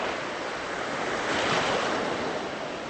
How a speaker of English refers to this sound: Thick black waves roll up onto the beach in Beirut, splashing against sand that's been stained by a huge oil spill.